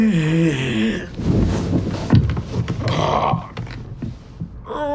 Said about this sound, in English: Hagrid yawned loudly, sat up, and stretched.